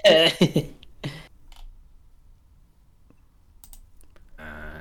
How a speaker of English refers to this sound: I'm typing with one hand. I have to hold the microphone in the other one.